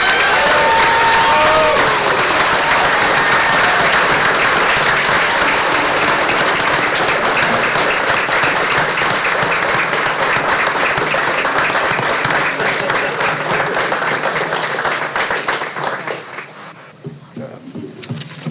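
A crowd bursts into a round of applause with some cheering and whoops, dense steady clapping that holds loud for about fifteen seconds before thinning out and fading at the end.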